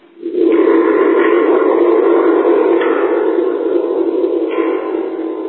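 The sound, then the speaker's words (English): A toy instrument gives off a loud, steady, buzzy electronic tone in a Pong-like video game style, holding for about five seconds with slight wavers in its timbre. No one speaks. “Here's a musical instrument that I have that kind of replicates that sound, although there is no real replication of that sound.”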